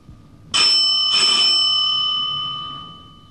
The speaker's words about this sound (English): Oh no, not again. Every time we start supper, the doorbell...